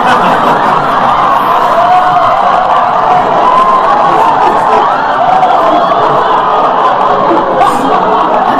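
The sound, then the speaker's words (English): A loud, steady crowd din fills the whole stretch, many voices shouting and calling over one another at once, with occasional raised cries cutting through the noise. “It's just, you can't help noticing things. Like all the yelling.”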